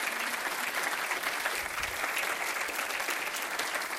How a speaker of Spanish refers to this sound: Denle un fuerte aplauso a Cristo.